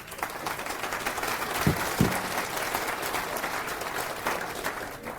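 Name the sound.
audience applause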